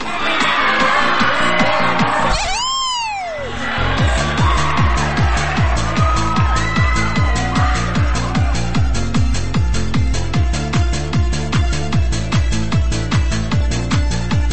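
A crowd at a nighttime live music show screams and cheers when asked to, over loud, pounding club music with a steady thumping beat, and a high whooping sweep rises above the noise early on.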